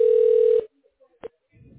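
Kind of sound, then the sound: signal or alarm, telephone dialing tones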